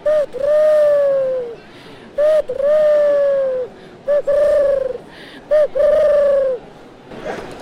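A voice imitates a turtle dove's cooing: four repeated phrases, each a short clipped note followed by a longer, gently falling coo, loud against faint background noise.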